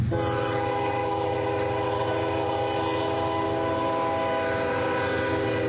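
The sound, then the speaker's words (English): A freight train rumbles past, its horn sounding a loud, sustained blast over the heavy low roar of the engine and rolling cars, heard while running along the railroad tracks. “Yeah, it's definitely a freight train.”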